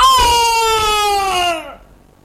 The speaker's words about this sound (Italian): Monta, ma era troppo peso per la scala di legno, che si disfece e l'orco cascò di sotto con un urlo disperato.